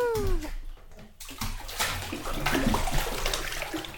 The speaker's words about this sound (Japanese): いいですよ。このままお風呂の中に、ザブーン。